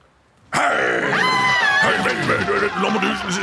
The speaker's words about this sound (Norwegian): Nå er alle menneskene som du hører, så er det full panikk på stedet her nå. For alle mennesker er redde for meg.